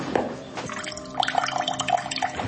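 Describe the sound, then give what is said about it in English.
A thin, weak trickle of cold water runs from a kitchen faucet with low water pressure, with scattered drips and splashes landing in otherwise quiet surroundings. “This is my cold water pressure in the kitchen.”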